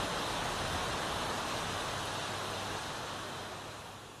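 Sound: rain falling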